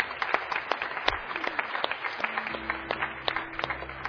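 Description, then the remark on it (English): An audience at a worship service claps steadily together in a round of applause to the Lord, a dense wash of overlapping handclaps, with a low sustained hum entering partway through. “I want to give it a round of applause to the Lord and what he's done this morning.”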